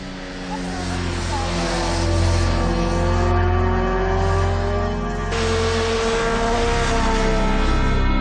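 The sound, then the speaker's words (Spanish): Motorcycle engines roar loudly and continuously during an illegal motorcycle race on a road, their revving pitch climbing steadily as the bikes accelerate, with a sudden surge in intensity partway through. “Vicente ha grabado muchas concentraciones y carreras ilegales de motos”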